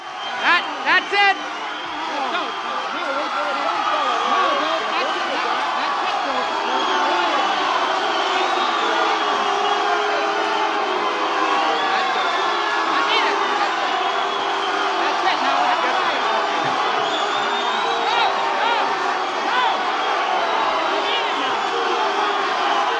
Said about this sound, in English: And here you are at the mic trying to end the concert as people start booing you.